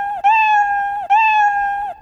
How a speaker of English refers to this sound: I could just do this, get rid of this, and let me try this other puzzle piece, play sound meow until done, and then drag three of these and click play.